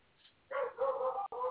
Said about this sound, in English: Dog's barking.